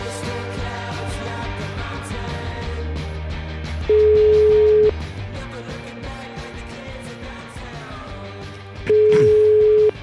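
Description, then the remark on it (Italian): A telephone ringing tone sounds twice, each a steady one-second beep about five seconds apart, standing out loudly over busy background music. “Il telefono che squilla. È il mio.”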